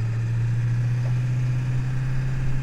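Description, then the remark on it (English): The engine of an old medic truck, rigged for surgery, idles steadily, a constant low rumble with a strong droning hum that holds level throughout, with no voices. “It's an old medic truck.”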